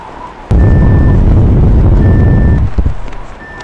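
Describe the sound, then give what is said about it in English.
A phone app's proximity alarm sounds three steady, high-pitched electronic beeps, each about half a second long and evenly spaced, over a loud roaring rumble like wind or a rushing engine. “Well, those are the proximity alarms I set up in my app.”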